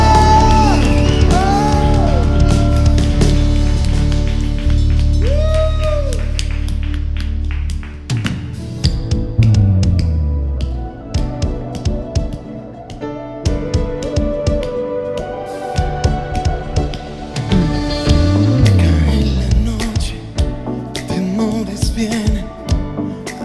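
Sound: audience applauding and cheering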